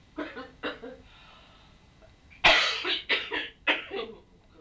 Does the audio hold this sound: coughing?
yes